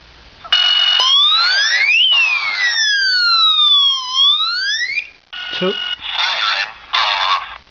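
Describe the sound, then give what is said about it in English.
A home security system's loud electronic alarm siren sweeps up and down in pitch, wailing continuously, then cuts to short bursts of harsh buzzing tones, piercing. “3 turns off the alarm.”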